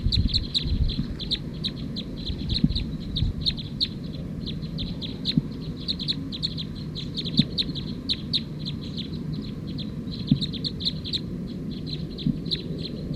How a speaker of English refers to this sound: That was actually bird 220 that was calling as 219.